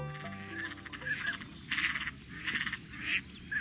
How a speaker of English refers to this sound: The United States is home to more than 550 national wildlife refuges, havens for wildlife, like these black ducks and canvasbacks.